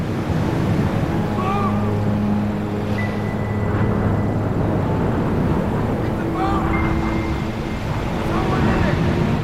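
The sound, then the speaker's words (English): Ocean waves wash steadily near the shore in a continuous, loud roar, with a low droning hum and a few faint high chirps drifting over the surf. “the ocean's undulating surface slowly pushing it toward shore”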